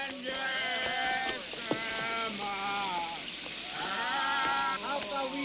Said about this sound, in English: Later that night, rain falls as Jock steps into an alley.